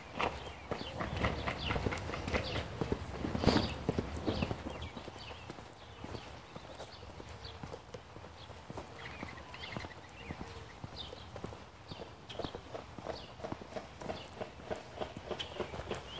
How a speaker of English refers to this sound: Okay, that's not a bird. That's a... it's a man with a hammer, I think. Yeah, they're working on this house here. Putting up a vapor barrier.